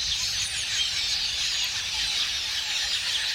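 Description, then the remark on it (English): A dense, continuous wash of high chattering calls from a huge flock of red-billed quelea, blending into a steady hiss-like roar with no single voice standing out, and nobody talking. “But setting aside their taste for crops, the sight of a couple million red-billed quelea swirling in unison and creating ever-changing patterns in the air is one of nature's most amazing spectacles.”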